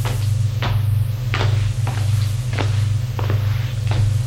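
An old man pulls the door of his shop shut, with a series of sharp knocks and latch clicks spread over a few seconds, against a steady low hum.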